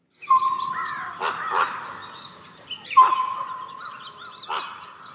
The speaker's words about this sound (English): Those are soundscapes of nature, from the flute sounds of birds to the harmonies of Arctic wolves.